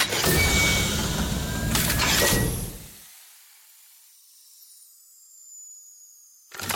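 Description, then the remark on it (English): Car park ambience: a car's engine rumbles loudly for a few seconds, then cuts away to near quiet with a thin hiss and a faint high whine, before a short burst of noise at the end. “Notice no one in this car park can park properly.”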